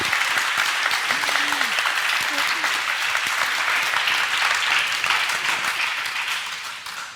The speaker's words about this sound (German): Wisst ihr noch, wie es sich anfühlt, wenn so ein Raum einfach laut ist und klatscht? Ansonsten, genau, einmal für euch selber.